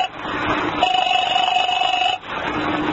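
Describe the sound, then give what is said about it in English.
A telephone ring tone sounds over the line as a call is put through to the 5th Precinct Police Station, one steady burst lasting about a second and a half, with a low line hum before and after and no one speaking. “I'm ringing.”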